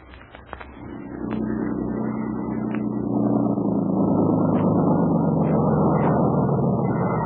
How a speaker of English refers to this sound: we see a couple of natives busily transforming it from a crude boat into a smooth, sleek motorboat. Soon, the motor comes. After a moment, a slim, trim, grim woman steps to the wheel, and the boat swings into the river channel, up a narrow creek.